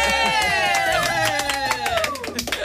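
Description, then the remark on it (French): A small group claps in a quick, irregular patter for a few seconds, celebrating the birth of a colleague's baby boy, with a loud sustained vocal cheer sliding downward in pitch above the applause. “Yeah, on l'applaudit.”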